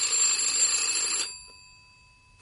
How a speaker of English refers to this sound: It was the following day, Wednesday, at some time after 12:30, that the phone rang in my room at the hotel.